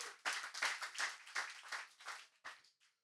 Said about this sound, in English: Amen. Amen. Let's clap. Amen.